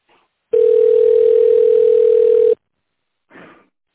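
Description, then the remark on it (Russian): A steady, mid-pitched telephone ringback tone sounds for about two seconds while waiting for an answer from the construction company SMP, then cuts off, followed by a brief burst of soft noise. “Если вы знаете внутренний номер сотрудника, наберите его в фоновом режиме, либо дождитесь ответа.”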